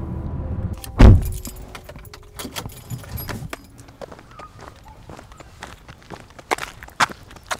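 Inside a parked car in a Tim Hortons parking lot in Perth, Ontario: keys jangle and rattle, a sharp thump lands early, and a low engine-like rumble fades out, leaving scattered clicks and handling noises. Nobody speaks.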